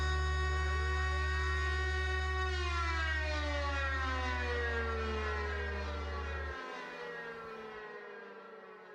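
A civil defense siren wails loudly with no voices, its layered tone sliding slowly downward as it winds down, while a heavy low hum underneath cuts out abruptly before the end.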